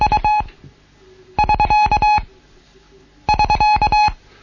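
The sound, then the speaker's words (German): A steady mid-pitched Morse tone keys out the SK end-of-work signal, taught in a Morse code lesson, a short group of beeps repeated three times with brief pauses between, loud and alone without any talking. “Dann lernen wir noch das Zeichen SK zusammengegeben.”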